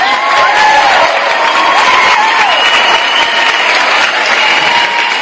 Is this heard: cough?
no